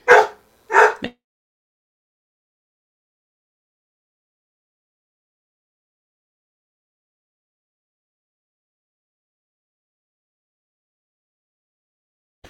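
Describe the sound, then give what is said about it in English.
A dog barks twice in quick succession, two sharp barks right at the start, followed by a long stretch of silence with no talking. “I'm having dog drama today.”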